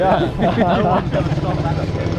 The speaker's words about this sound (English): Watch out. And we have traffic, too.